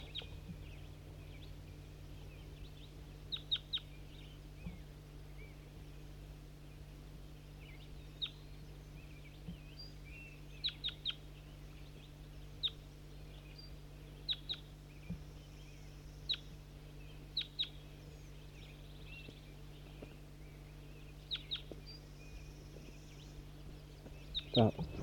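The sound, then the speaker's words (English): A captive flock bird, recorded as bird 4-3 among newly caught birds, gives short, high chip calls, singly and in quick pairs or triplets at irregular intervals, over a steady low hum. “Responding to calls of 4-3. Stop. Start recording bird 4-3.”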